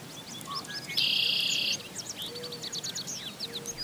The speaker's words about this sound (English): This week, that sound of a red-winged blackbird and other birds in a wetland in Blacksburg, Virginia, opens an episode about the legal status of wetlands and other kinds of waters under the Federal Clean Water Act.